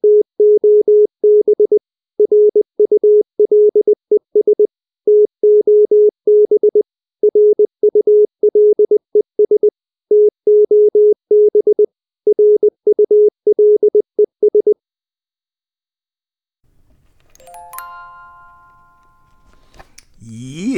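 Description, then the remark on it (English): A single steady-pitched time signal tone marking 1930 UTC pulses on and off in a fast, irregular pattern of beeps for about fifteen seconds, clear and prominent, followed by silence and a faint voice near the end. “Okay, if you're hearing those tones, you know that it is 1930 UTC.”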